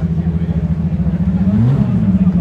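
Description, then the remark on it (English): A Formula One race car engine drones steadily as the car goes up a hill, its pitch rising as it accelerates, with a continuous low rumble throughout the short stretch. “I think these are the F1 cars that are going up the hill.”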